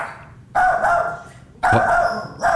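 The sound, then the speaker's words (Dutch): A dog lets out short, hard barks, spaced out with brief pauses, loud, with no one talking. “Korte, harde blaffen hebben eigenlijk de functie om te zeggen”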